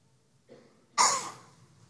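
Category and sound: human body sound, cough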